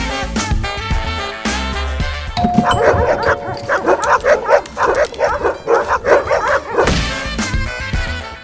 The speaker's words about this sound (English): Who's ringing the doorbell?